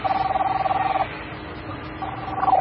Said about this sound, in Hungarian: Hú, ez az én telefon. Fogyóeszköz a mobil.